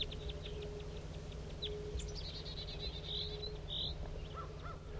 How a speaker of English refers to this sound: Here comes some wild birds. Wild bird. Wild bird in flight. It's going towards main flock. Swerved away from 5-3.